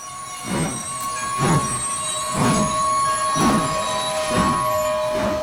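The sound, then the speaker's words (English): Train wheels squeal against the rails as the train slows to a stop, a sustained high-pitched screech layered over rhythmic rumbling thumps about once per second, fairly loud, with no voices. “Whoa! What was that? It looks like we're stopping.”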